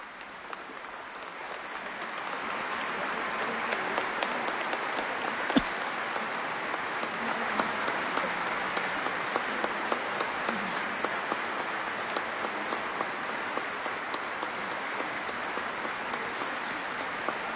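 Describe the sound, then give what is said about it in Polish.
A crowd claps steadily and continuously, a dense wash of many hands at even loudness throughout, with no voices heard, applauding Cardinal Angelo Comastri's words about Saint John Paul II. “Klaski same w sobie już są oceną tych pięknych słów kardynała Angelo Comastriego o Janie Pawle II świętym.”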